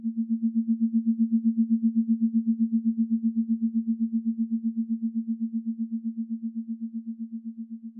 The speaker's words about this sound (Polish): Czas na sygnał planetoidy. Kuawar, wprost z pasa Kuipera, który oplata Neptuna.